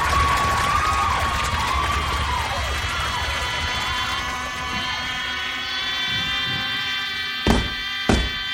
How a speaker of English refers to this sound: It's a rock concert. It's show after show. The theater is jammed with kids from all of these schools cheering for each other. It's too loud, it's too crowded, it's too chaotic, it's too much fun.